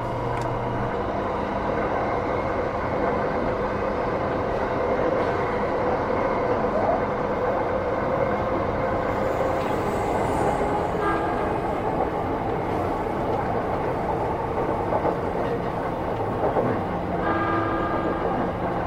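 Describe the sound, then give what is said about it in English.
A steady, loud roar of a train rumbling through the Seikan Tunnel, about 53 kilometers long, with continuous low-frequency droning and faint rhythmic rattling of the carriages throughout, no voices present. “Here we go, entering the Seikan Tunnel.”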